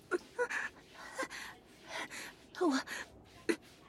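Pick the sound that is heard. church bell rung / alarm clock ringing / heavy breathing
heavy breathing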